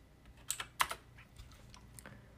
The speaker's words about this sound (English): Sorry, you're going to hear my keyboard clacking because my phone's so close.